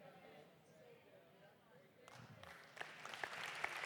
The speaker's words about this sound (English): Thank you for clapping. Thought for a moment you might not, because in the first service there were a couple of there was like 10% who were like, what?